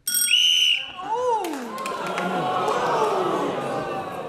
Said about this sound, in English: There was a gap where my buzzer was heard. That's right. I think we heard Clement buzz. Your buzzer came in before the whistle.